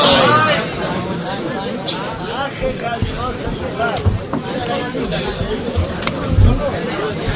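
A crowd chatters without pause, many overlapping voices blending into a steady, dense babble with no single speaker standing out, and a few brief louder bumps rise from the hubbub.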